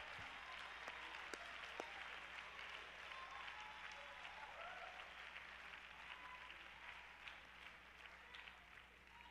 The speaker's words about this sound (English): If I have some apostolics in this place that believe what I'm preaching, I wish you'd get to your feet and clap your hands because you're thankful you've received the revelation of who Jesus is.